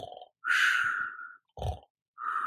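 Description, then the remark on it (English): A voice imitates snoring with two or three rough, rasping breaths, a long harsh inhale followed by a short low grunt, fairly loud. “Then it snored.”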